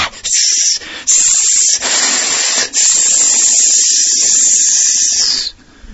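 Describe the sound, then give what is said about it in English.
A voice imitates Kaliya, the snake incarnation, with loud, sustained hissing, broken into a few long spitting bursts by brief pauses before cutting off near the end. No words are spoken. “All the poison comes spitting out in royal fashion like an AK-47 or a Uzi.”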